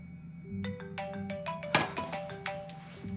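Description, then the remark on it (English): A woman's mobile phone ringtone plays at home, a melodic electronic tune of short stepping notes, steady, over a low background hum with no one speaking. “Stop calling, all right? I'm turning it off.”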